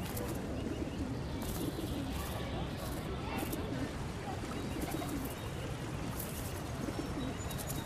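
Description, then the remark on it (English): A male and female pigeon coo in low, throaty murmurs during a courtship kiss, a steady overlapping burble against constant outdoor background noise, with occasional faint higher chirps. “But the real sign that male and female are ready to move on is the pigeon kiss.”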